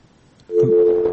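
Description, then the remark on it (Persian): A steady electronic phone busy tone, heard after a listener's call to a radio phone-in was disconnected, starts abruptly after a brief quiet stretch and holds at an even level, clear, with no one speaking. “تماسشان قطع شد متاسفانه.”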